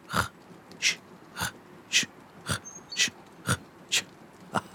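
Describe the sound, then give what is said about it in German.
A small steam train chuffs and wheezes along in a steady rhythm, about nine breathy puffs roughly half a second apart, moderately loud, with no voices. “Also selbst wenn ihr aussteigt und lauft, das Zügle ist immer zu hören in eurer Nähe. Hört ihr, wie sie schnauft und keucht?”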